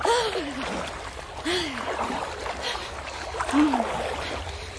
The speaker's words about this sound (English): Listen to the water slapping against the walls. What happened to these walls? Why are they all ruined? Well, Cromwell's Puritans battered them down when they were fighting King Charles I.